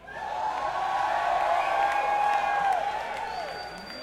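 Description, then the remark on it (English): An audience in Poughkeepsie claps and cheers steadily for about four seconds, with high whoops and shouting voices rising above the dense applause before it begins to fade. “Because I really had nothing to add and I wanted you to clap.”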